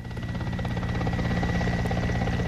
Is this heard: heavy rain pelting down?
no